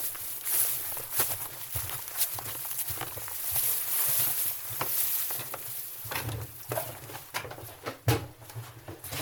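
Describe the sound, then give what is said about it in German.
Footsteps thud steadily across wooden floorboards in a farm barn above the cows, a series of hollow knocks in an uneven walking rhythm, with a low hum and faint background noise underneath. “Hier laufen wir auf Holzdielen.”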